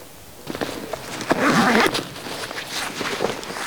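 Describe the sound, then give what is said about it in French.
Clanking bells on a neighbour's flock of local ewes, irregular metallic knocks and jangles overlapping, with animal shuffling and a brief louder burst of movement; no one speaks. “Là, ça, c'est des brebis du Pays Teuil, donc d'ici. Et elles ont des cloches différentes des miennes, qui sont des brebis basques.”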